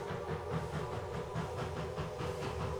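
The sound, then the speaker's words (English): A train approaches on railroad tracks: steady rumbling on the rails, with rhythmic clatter and a hissing wash over a low drone, continuous and fairly loud with no one speaking. “He's standing on railroad tracks. He sees the light of a train approaching. The train is getting closer, but he can't move.”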